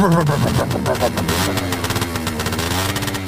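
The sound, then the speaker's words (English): A voice imitates a motorcycle exhaust, a buzzing, sputtering rev that rises and then settles into a steady rumbling drone for about three seconds, loud. “You need a new motorcycle exhaust sound effect, okay?”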